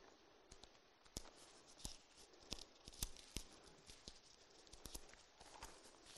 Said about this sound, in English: First Corinthians 5:1, and it is great, like Pastor Jeremy said, to hear those pages turning.